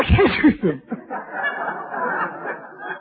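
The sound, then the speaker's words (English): A single loud, voiced sneeze bursts out, followed by a few seconds of soft, breathy rustling noise. “Bless you.”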